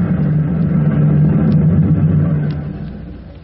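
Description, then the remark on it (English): A phone generator engine, hooked up during a rescue at a burning building, runs with a steady, loud low drone and a constant rumbling hum, holding even for a few seconds before easing off slightly at the end. No voices are heard. “Hook up that phone generator!”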